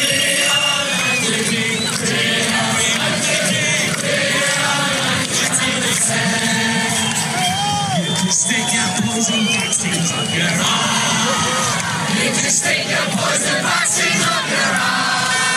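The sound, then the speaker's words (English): A large crowd at a political rally outside a government building overseas chants and shouts together, a loud, dense wall of voices that holds steady for about fifteen seconds, with occasional whoops and cries rising above the mass. “Here's a rally outside of a government building overseas.”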